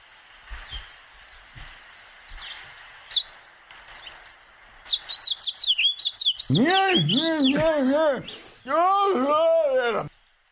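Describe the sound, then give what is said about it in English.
A male Guyanese finch sings: faint scattered chirps give way to a quick run of high tweets, then loud, repeated rising-and-falling warbled notes in two long bursts. “If you really listen closely, you can hear the male. The male Guyanese finch.”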